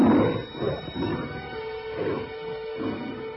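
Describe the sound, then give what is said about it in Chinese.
Deep, rumbling roars and snarls of hungry lions in a lions' den come in several overlapping bursts, loud, with a continuous growling undertone and no voices. “那群被扔下狮子坑的人还没落到坑底，就被饥饿的狮子给撕碎了。”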